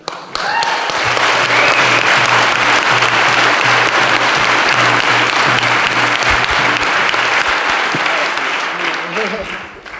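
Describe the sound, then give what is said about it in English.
A crowd applauds a speaker who has just finished, clapping steadily for about ten seconds, a dense, loud wash of clapping that swells in quickly and tapers off at the end, with a low steady hum underneath. “Yeah, a round of applause.”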